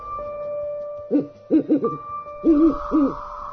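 An owl hoots in short clustered bursts: one call, a quick run of three, then two more, clear over a faint steady background tone, with no talking.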